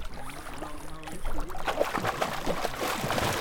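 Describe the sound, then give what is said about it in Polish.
Lake water splashes and churns with bursts of bubbling as a swimmer in a swimming lesson, head under water, exhales big bubbles; the sloshing grows louder and busier in the second half, with no talking. “Głowa pod wodą i w czasie, kiedy głowa jest w wodzie, robimy wydech. Chcę widzieć duże, duże bąble, bo całe powietrze, które nabieracie, macie wypuścić do wody, ok?”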